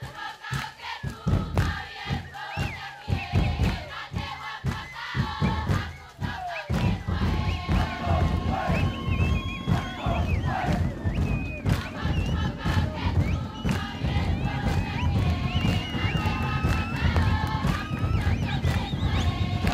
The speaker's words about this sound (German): Beim Haka Manu, auch genannt der Vogeltanz oder Tanz der Götter, singen die in Federn gekleideten Frauen, während sie um die stampfenden, teilweise schreienden Männer elegant herumtanzen. Den Rhythmus geben laute und tiefe Trommeln vor.